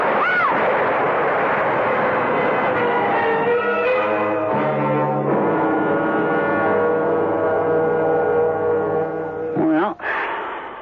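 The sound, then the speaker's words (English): A loud, steady roar with drawn-out creaking, groaning tones, ending in a sudden heavy crash as a tree falls and smashes down near the end. “Rick, that tree's falling.”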